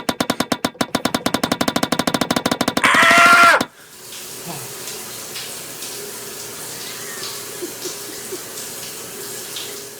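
A rapid, steady pulsing like a pump sputters for a few seconds, then a loud hiss of spraying water from a shower set up on a tennis court gushes briefly before cutting off abruptly, leaving faint background noise.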